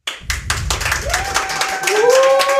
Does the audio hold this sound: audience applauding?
yes